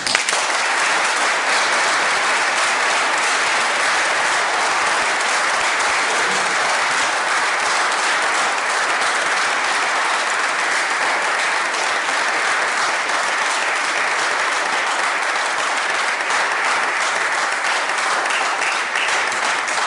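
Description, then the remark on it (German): An audience applauds its new pastor with dense, steady clapping that holds at an even loudness for the full twenty seconds, with no voices rising above the sound of many hands. “Und ich glaube, jetzt dürfen wir alle mal für den neuen Pastor dieser Gemeinden klatschen.”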